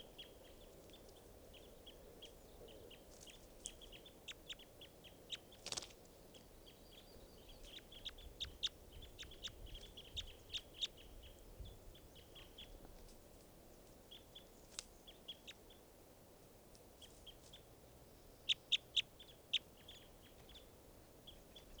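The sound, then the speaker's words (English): A recording of bird number 515: faint, high-pitched chirps repeat irregularly throughout, short sharp notes in scattered bursts over a steady low rumbling background, with one brief louder click midway. “Recording now, bird 515.”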